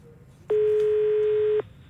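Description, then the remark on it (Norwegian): A single steady electronic beep, loud and clean, holds for about a second before cutting off, the tone an answering machine gives before a message is left. Faint background hiss surrounds it. “Og så er det mange som ringer på vår telefonsvarer i dag.”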